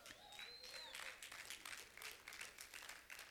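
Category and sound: crowd, golf clap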